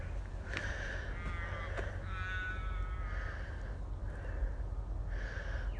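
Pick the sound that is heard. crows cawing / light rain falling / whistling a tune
crows cawing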